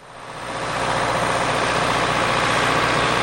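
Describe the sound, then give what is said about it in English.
The engine of a small John Deere tractor pulling a 4-row cultivator through a soybean plot, driven by an agronomist, swells up within the first second, then holds a loud, steady, gritty drone, with no voices. “It begins in the soybean plot, where an agronomist is using a 4-row cultivator pulled by a small John Deere tractor.”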